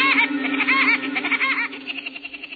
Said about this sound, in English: He doesn't sound exactly like Woody Woodpecker. But this acorn woodpecker was probably the model for the cartoon character.